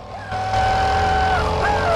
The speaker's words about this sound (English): Ponytailed Fabio presses the accelerator and races ahead.